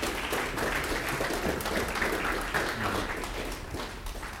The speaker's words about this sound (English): Let's give Dr. Hensley another hand clap.